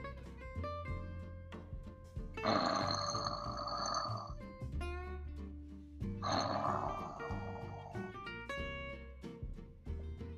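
Two long, loud rasping snores, each lasting about two seconds with a pause between, rumble over soft background music. They come from a wolf with a big belly sleeping contentedly in a forest.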